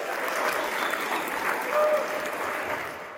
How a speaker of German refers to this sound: Für dieses Versprechen erntet er ordentlich Applaus.